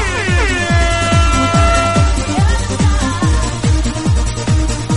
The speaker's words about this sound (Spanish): Desde Valladolid, vamos Serrano, que runen los temazos, esa bocina.